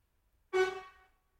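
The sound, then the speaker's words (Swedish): A single short car horn honk, a bright buzzy blast lasting about half a second before fading out, heard alone with no talking around it. “Det är någon som tutar, men Dacke vet inte om han tutar på honom.”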